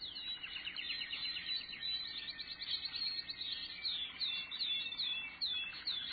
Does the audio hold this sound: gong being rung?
no